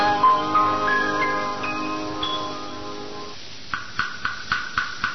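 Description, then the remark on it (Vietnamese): A temple bell rings out with a long, shimmering decay, then a wooden fish takes over with steady, evenly spaced hollow knocks, about six in a row, as a princess prays for the soul of her late father, the king. “Chú Tiểu à, do đâu mà có tiếng chuông mỏ của công chúa nhịp đều nghe buồn thảm quá vậy chú Tiểu?”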